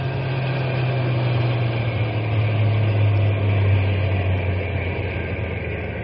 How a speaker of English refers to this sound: We'll drive on a little bit and then stop the truck. But keep the motor idling, so we can take off in a hurry if anybody comes along.